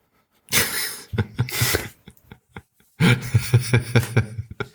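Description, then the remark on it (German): A cat retches and heaves in two loud bouts of rapid, rhythmic gagging pulses, separated by a brief pause with a few faint clicks, vomiting up its food. “du kannst doch nicht immer kotzen.”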